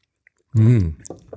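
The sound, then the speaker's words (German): A man chews a protein bar, a short muffled hum followed by soft, irregular wet mouth clicks and squishes. No clear speech. “der … muss noch ein bisschen kauen”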